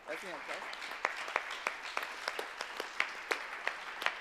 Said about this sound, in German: Ja, und großen Applaus an Kurt.